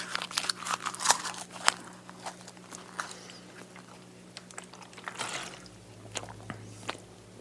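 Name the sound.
chewing rolled-up paper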